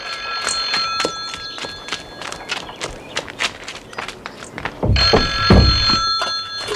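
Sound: telephone ringing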